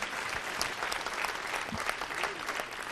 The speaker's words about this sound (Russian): аплодисменты, пожалуйста. Встречайте, Михаил Пореченков.